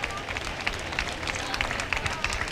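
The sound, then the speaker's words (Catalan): Loud, dense applause from a large crowd in a town square, sustained and steady with scattered sharper claps standing out, a continuous roar of clapping and cheering as an ovation for four girls who have just broken a glass almorratxa. “Aquest soroll amb els fortíssims aplaudiments. Sí. Ovació per les quatre noies que ja han trencat l'almorratxa.”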